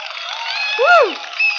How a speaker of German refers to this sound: Nice. Das hört gar nicht mehr auf. Also, ich finde, das ist auch ein gutes Schlusswort. Applaus, Applaus.